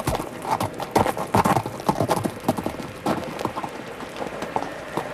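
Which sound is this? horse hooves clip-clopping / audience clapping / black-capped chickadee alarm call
horse hooves clip-clopping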